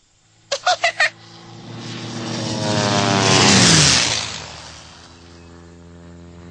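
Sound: loud airplane flying overhead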